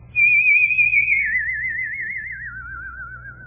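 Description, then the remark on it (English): A single sustained human whistle with a strong vibrato, stepping gradually downward in pitch over about three seconds, loud and steady over a faint low hum. “And all of a sudden, I discovered that I could make a whistle tone.”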